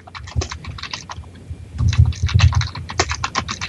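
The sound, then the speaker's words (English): Rapid, uneven typing on a computer keyboard fills the whole stretch, fairly loud, with a brief lull before a denser burst of keystrokes; no one speaks. “Lots of typing.”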